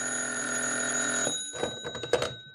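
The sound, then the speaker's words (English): A telephone bell rings loudly and steadily for over a second in an office, then cuts off, followed by a few short clunks and rattles like the receiver being picked up. “Then the phone rang, and I found out.”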